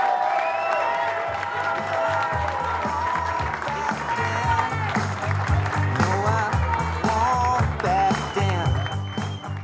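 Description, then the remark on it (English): A large crowd cheers and applauds loudly throughout as Tom Udall takes the stage to give a speech, a dense wash of clapping and shouts over rock music with a steady, thumping bass line blasting through the PA system. “The crowd cheered emphatically when Udall took the stage”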